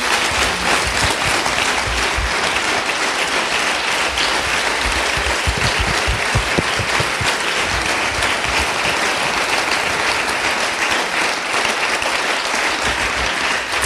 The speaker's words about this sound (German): Ich glaube, das hätte mal den ersten Applaus verdient.